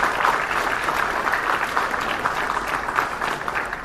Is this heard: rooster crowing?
no